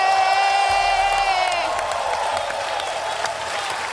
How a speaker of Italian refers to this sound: Signore e signori, un grande applauso per …!